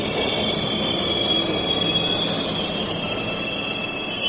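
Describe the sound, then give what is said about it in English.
A New York subway train heading north past Central Park toward Harlem rolls along the rails with a steady, loud rumble and high metallic wheel squeal ringing throughout, continuous with no voices. “Say, take a subway north, past Central Park, past the Uppies, past Woody Allen's Upper East Side, past 110th Street and into Harlem.”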